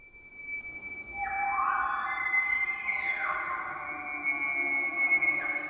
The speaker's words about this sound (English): Bulls make this sound to intimidate other bulls and attract cow elk. Elk have poor eyesight. They are sonic creatures.